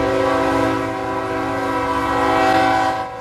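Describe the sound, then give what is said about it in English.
A train horn blares steadily and loudly over the heavy rumble of a complete 115-car coal train passing a level crossing in Parkville, its sustained tones filling the whole clip before easing slightly at the end. “Each day, this complex can consume about 12,000 tons of coal, or a complete coal train of 115 cars, like this one.”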